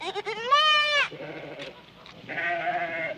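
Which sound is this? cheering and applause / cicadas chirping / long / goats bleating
goats bleating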